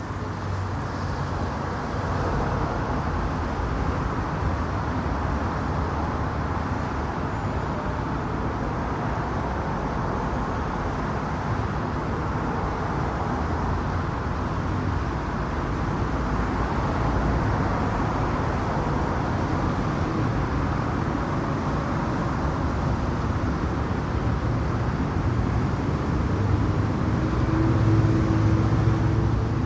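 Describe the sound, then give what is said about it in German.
A steady, dense roar of road traffic circling the 100-metre island of Ernst-Reuter-Platz, an open square in Berlin-Charlottenburg, fills the whole half minute, a continuous low rumble of many vehicles with no distinct horns or voices standing out. “Das ist die Verbindung Berlin-Charlottenburg zum Stadtschlüssel hin, ein offener Platz mit 100 Meter Durchmesser Insel, die von Autos befahren wird. Hören wir in diese Verkehrshölle rein?”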